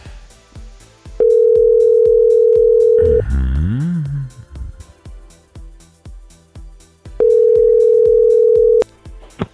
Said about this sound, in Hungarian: Így van, bárki most éppen meghallhatja a telefonját, és tudjátok, hogy hogy kell felvenni.